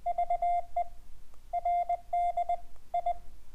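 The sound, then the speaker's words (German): Morse code beeps spelling out the word Verdi, keyed by someone learning Morse: a steady mid-pitched tone in short dots and longer dashes, grouped with brief pauses between letters, clean and without any voices. “Ich habe gerade Verdi gemorst, denn das ist meine Gewerkschaft, die dafür gesorgt hat, eben, dass ich so viel frei habe.”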